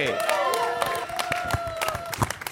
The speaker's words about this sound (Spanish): Gente, fuerte aplauso para Jane Albarte.